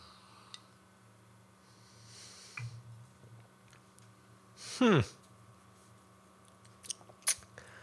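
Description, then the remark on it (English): A single loud slurping sip of a drink, sweeping down in pitch, with a few faint mouth clicks and smacks before and after, otherwise quiet. “Let me get one more sip and then I won't keep you hanging forever.”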